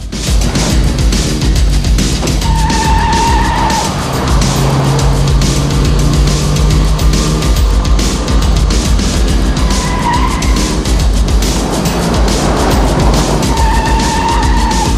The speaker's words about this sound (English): Unseen by him, figures in the car park jump into a car, which then speeds towards the exit.